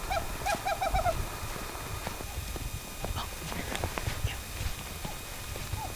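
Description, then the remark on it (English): A recording of a western screech owl, played by members of the Bridgerland Audubon Society listening for owls two hours before sunrise, gives a quick series of short, hollow toots that speed up like a bouncing ball, heard clearly near the start over a steady outdoor background hiss. “They're standing in a circle, playing a recording of a western screech owl, and waiting for a response.”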